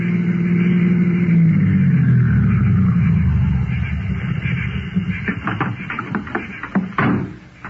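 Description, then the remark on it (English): A car rolls up the road, its low engine rumble swelling and holding steady before easing off, followed by a scattering of sharp clicks and knocks. “Car's coming up the road.”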